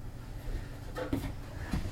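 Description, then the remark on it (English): A sheet of paper is handled while unboxing a device, giving a couple of short, crisp rustles near the middle and another soft crinkle near the end, over a low steady background hum. “And then, wow, another piece of paper.”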